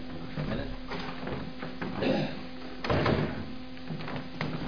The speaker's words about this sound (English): Let me shut the door.